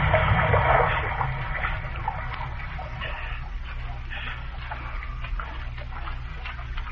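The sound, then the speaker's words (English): A whale thrashes and spouts in the water, surging from side to side with sharp, cracking breaths from its spout hole: a steady, heavy churning and splashing with a low rumble, loudest in the first second, then a continuous wash of water with no voices. “The whale surges from side to side, dilating his spout hole with sharp, cracking, agonized breaths.”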